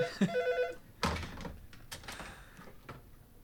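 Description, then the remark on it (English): A telephone rings with an incoming call, its bright electronic tone sounding clear, followed by a few clunks and soft handling noises like a receiver being picked up. “And I don't know how to answer that phone, so that's super awkward.”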